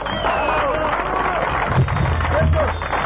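An audience breaks into loud, sustained applause mixed with cheering and a few rising whistles, a dense steady roar of clapping that carries on for about three seconds.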